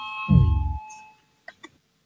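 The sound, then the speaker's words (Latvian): An electronic parliament voting bell, rung to call a vote on the finance minister's proposal no. 28, rings once with a loud, low buzzing tone that slides slightly downward and fades, over a steady high hum. Two brief, sharp clicks follow after a short pause. “Lūdzu, zvanu, balsosim par 28. finanšu ministra Reira priekšlikumu.”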